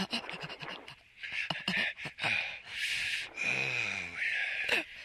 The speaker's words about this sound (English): You are breathing heavily. Did you know that?